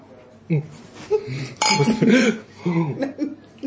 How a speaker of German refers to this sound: Prost, die Dame. Prost, Prost die Herren. Prost. Prost. Wie Sie am Prostgeräusch gehört haben, war jetzt nur ein Bierglas beteiligt.